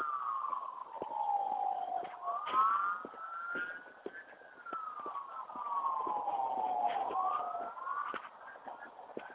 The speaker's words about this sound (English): Wow. Sirens, horns.